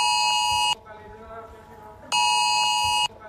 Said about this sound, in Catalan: Aquest matí Protecció Civil ha fet la segona prova del sistema ES Alert en zones de risc nuclear. Avui ha tocat als municipis del voltant de la central d'Ascó.